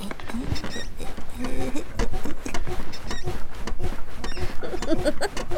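A bed creaks and squeaks as someone moves on it, in a dense, irregular run of small clicks and high, mouse-like squeals, with a few lower groaning creaks as the weight shifts.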